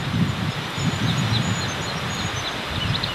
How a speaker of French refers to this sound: Alors là, on vient d'assister au réveil des oiseaux qui viennent de commencer de chanter, en fait.